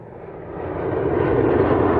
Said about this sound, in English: I'm here at Cleveland Hopkins International Airport, where roughly 150 flights take off every day. Loud, gas-guzzling passenger jets that leave exhaust trails in their wake.